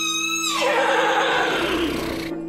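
horses approaching

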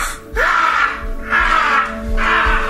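raven cawing

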